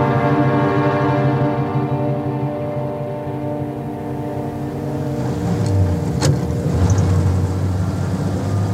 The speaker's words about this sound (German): Ihr Wagen fährt ausgezeichnet